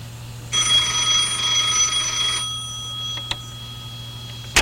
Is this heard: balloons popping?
no